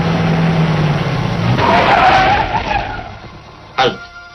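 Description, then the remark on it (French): A car drives out of Lyon with a steady engine drone, then its tires skid with a brief squeal midway, followed by a single sharp thud near the end. “Une embuscade est tendue à notre voiture.”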